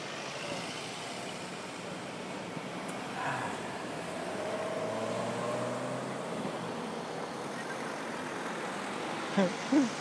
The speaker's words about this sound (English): Some of the vehicles taking a little while to start off on the traffic lights there.